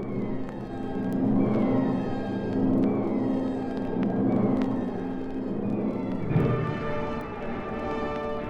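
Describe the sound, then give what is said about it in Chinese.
A convoy of vehicles rolls by: a steady, heavy engine rumble with layered droning tones and whining pitch shifts as engines change gear, continuing unbroken throughout with no voices. “人的车队开过来了。”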